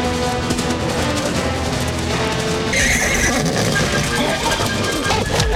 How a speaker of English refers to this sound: Galloping, he breaks through the snow, falling into the water.